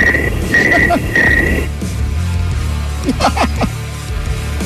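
cricket chirping sound effect

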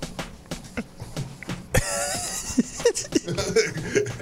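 coughing

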